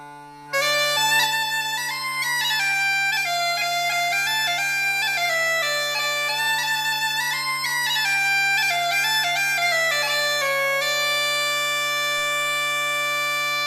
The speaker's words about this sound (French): Maintenant, écoutons ce qu'on appelle aujourd'hui une cornemuse, celle qui est faite en peau de chèvre.